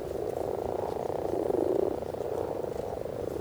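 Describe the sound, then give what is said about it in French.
A dense chorus of common toads and common frogs calling together at about 22:30 on a night near 14 degrees at the start of the amphibian season, a continuous mass of overlapping toad croaks and soft purring frog trills, steady, with no voices. “Les crapauds font les crottes, crottes, crottes, alors que les grenouilles rousses roucoulent.”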